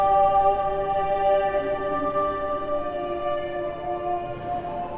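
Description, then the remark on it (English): A dense Renaissance choral motet from around 1556, Thomas Tallis's Spem in alium with 40 different harmonies, many voices holding rich, layered chords that shift slowly and steadily at a moderate, even volume, with no one speaking over it. “It's an amazing piece of music that has 40 different harmonies from around 1556.”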